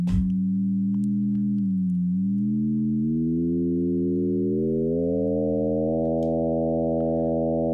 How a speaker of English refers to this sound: So we have a sine wave.